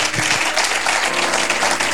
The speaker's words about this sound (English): If you are clapping, you clap well.